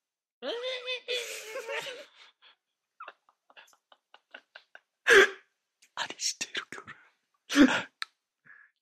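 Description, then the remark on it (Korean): A person imitates a fox's cry: a drawn-out, reedy wail early on, then two loud, harsh yelps a few seconds apart, with brief chatter and small noises between them. “여우 울음소리 들어보셨어요?”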